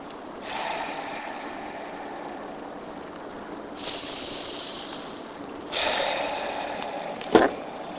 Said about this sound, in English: So go ahead and close your eyes, place your hands on your legs. And let's just all take a deep breath in and go inside. Deep breath in.